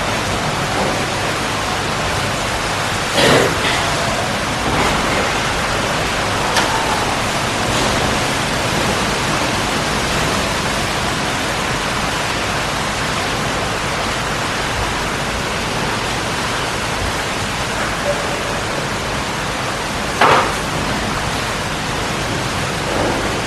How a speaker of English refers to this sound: Is that hail?